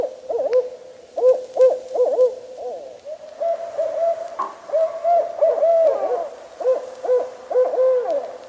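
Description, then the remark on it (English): A barred owl hoots in rhythmic, strident phrases, its calls rising and falling in groups, loud, with overlapping hoots later suggesting a second owl joining in. “Its hoot is more strident and seems to follow the rhythm pattern, "Who cooks for you? Who cooks for you all?"”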